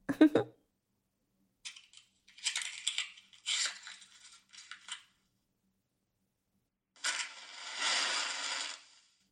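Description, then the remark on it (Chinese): Metallic clicks and scrapes of a lighter being handled and flicked, followed by a steady, close hiss of a lit flame lasting a couple of seconds. “我们是不是该上打火机了？”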